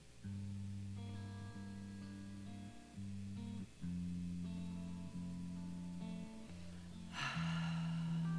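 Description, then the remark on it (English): A single deep, airy breath rises near the end over steady, low droning musical tones that sustain throughout, shifting pitch in long held sections. “Breathing.”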